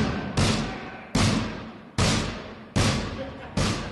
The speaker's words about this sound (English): Those are the sounds of inmates banging on the walls of segregation cells at a prison in Maine. It was recorded for a PBS Frontline TV documentary, Locked Up in America.